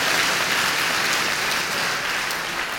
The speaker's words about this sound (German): Geben Sie sich selber mal einen Applaus.